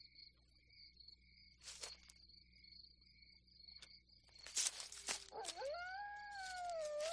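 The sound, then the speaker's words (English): A dog howls in the distance, a long wavering cry that rises and holds over the last couple of seconds, after steady cricket chirping and a few sharp rustles. “Probably just a dog.”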